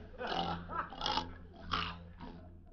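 A pig grunts in a short run of four rough, snorting bursts, fairly loud, with a low steady hum underneath and no talking.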